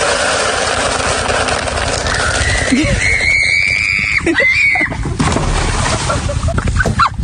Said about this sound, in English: the lady on back of the horse screaming because the horse has gone from a saunter to a full gallop